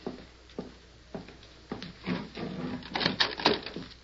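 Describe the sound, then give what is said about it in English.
A door is opened: four evenly spaced sharp clicks or knocks, then a busier stretch of rattling latch and wooden handling noises that grows slightly louder. No one speaks. “Open the door.”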